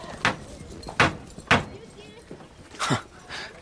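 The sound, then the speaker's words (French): Four sharp metallic knocks as a coachman strikes the bronze knocker of the huge door of the Hôtel de La Mole, a mansion in the Faubourg Saint-Germain; the blows are unevenly spaced, with faint background noise between them. “Le cocher souleva le marteau de bronze d'une porte immense.”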